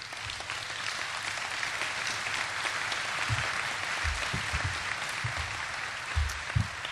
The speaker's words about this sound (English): I'll tell them you applauded.